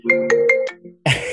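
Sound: mobile phone ringtone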